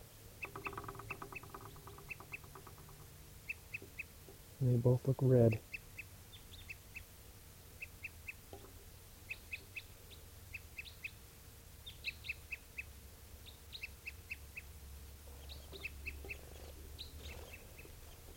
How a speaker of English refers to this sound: There's tooping of a bird. I see two crossbills now.